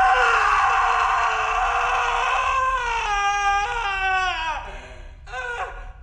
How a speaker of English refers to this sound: Guy screams.